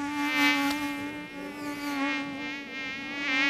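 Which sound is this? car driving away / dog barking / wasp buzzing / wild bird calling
wasp buzzing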